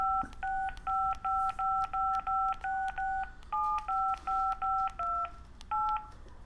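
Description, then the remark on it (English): A rapid run of telephone keypad dialing tones, about fourteen short dual-pitched beeps in quick succession with brief gaps, clear, with no one speaking. “If you did not take your SATs, please choose a number between 1 and a billion, followed by the pound sign and the little star. Okay, the number 9.”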